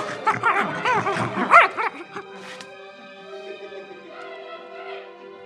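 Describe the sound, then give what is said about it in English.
Several mongrel dogs yip and bark in quick, overlapping, high-pitched bursts for a couple of seconds, then fall quiet while a soft, steady tonal backdrop carries on. “The boy wandered off away, singing sadly, as his hand dragged some distance behind, mongrel dogs licking at his fingertips.”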